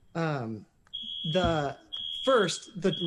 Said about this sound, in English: And I apologize, I have an alarm going off. I hope that the court can still hear me.